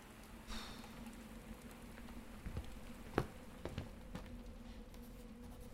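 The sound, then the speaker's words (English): Soft, steady rain falls on a roof, a continuous faint hiss with a few sharper taps of drops scattered through it and a low hum underneath. No one speaks. “The sound of rain on the roof nearly put me to sleep.”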